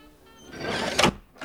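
A short mechanical slide rises into a scraping whoosh, then stops with a solid clack as a peephole on a door slides open. It's fairly clear, with no voices.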